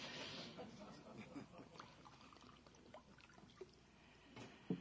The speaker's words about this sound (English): I'm going to pour my water out of respect for our Korean guests, since Americans are well known for drinking out of the bottle.